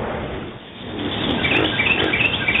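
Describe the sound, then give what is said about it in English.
Recorded sounds of birds, hyenas and chimpanzees, among the Earth sounds carried aboard a spacecraft: birds chirp and tweet in quick, high bursts over a steady rushing background that swells in the second half, the calls coming in short repeated flurries toward the end. “Birds, hyenas, chimpanzees.”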